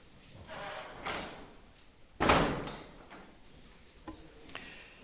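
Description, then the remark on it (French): A door bursts open with a sharp, loud bang partway through, preceded by a softer knock and followed by a few lighter clicks and rattles, with no one speaking. “les portes s'ouvrent de façon intempestive pour me rappeler qu'il y a une règle dans la vie commune et que voilà, il faut s'arrêter.”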